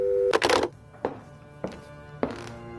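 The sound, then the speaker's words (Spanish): A telephone handset clatters and knocks down onto its cradle in a few sharp thumps, while a steady electronic line tone hums underneath, fairly quiet, with no talking. “Cuando cortó el teléfono, seguía sin poder creerlo.”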